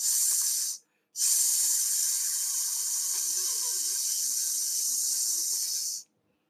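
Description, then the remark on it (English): A voice imitates a snake's hiss: a steady, breathy hissing, broken by one brief pause, then sustained for about five seconds before stopping abruptly. “That is the noise I am making. It sounds just like a snake.”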